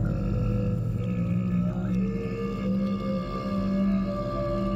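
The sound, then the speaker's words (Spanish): A deer bellows in one long, unbroken, low moaning call, its droning harmonic tone holding steady without pause for breath, with no voices. “Continuamos por el camino que había aparecido ante nosotros conforme el ciervo comenzaba a bramar débilmente.”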